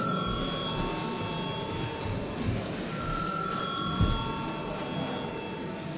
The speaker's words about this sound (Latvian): Paldies, lūdzu zvanu.